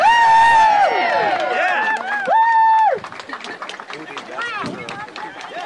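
crowd cheering

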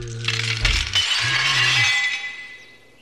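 pane of glass shattering

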